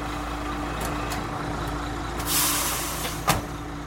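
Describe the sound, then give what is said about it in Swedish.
A heavy fire engine arriving at a train station on a cloudy day idles with a steady low rumble as it stops, then lets out a loud hiss of air brakes followed by a sharp burst of released air. “Stannar framför en trän och kliver ur brandbilen.”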